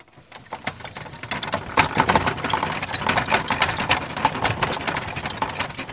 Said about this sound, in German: Das war das Holpern auf diesem Kopfsteinpflaster. Man hat auch gesehen, ich bin gerade direkt neben den Rädern hierher gelaufen, damit ich das gut aufnehmen kann, wie es die hin und her geschleudert hat im Grunde.